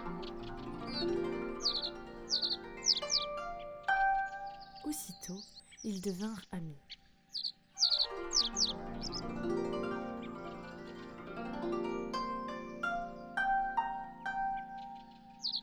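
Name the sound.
small bird singing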